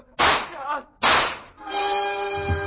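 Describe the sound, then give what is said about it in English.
A woman fires a gun at a man: two loud, sharp gunshots ring out about a second apart, each trailing off in a brief rumble, followed by a steady, sustained tonal drone. “Her gun spit and free sludge plowed their way through”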